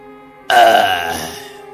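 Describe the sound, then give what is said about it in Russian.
A single loud burp erupts suddenly after a moment of low background hum, a rough, throaty eructation lasting about a second before trailing off. “Я трыгну в дым, гарь и вонь.”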